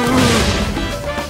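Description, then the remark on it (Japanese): A boxing double punch: two quick punches from a junior welterweight boxer land with heavy, smacking impacts over a loud, dense wash of background noise during a bout. No one speaks. “ダブルパンチ。”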